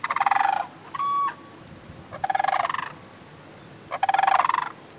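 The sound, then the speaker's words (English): Endangered whooping cranes call in three loud, rattling bugle-like bursts, each a quick run of pulsed notes, with a brief clear single note between the first two bouts; no one speaks. “After Hurricane Harvey, there were also questions about how another endangered bird in southeast Texas would bounce back, the whooping crane.”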